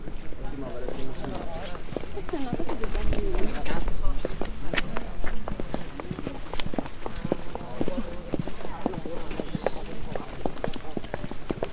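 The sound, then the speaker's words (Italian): Hard heels clop on a firm floor in a steady, hoof-like rhythm of sharp knocks, with murmured talk in the background. “Sembrano degli zoccoli di cavallo.”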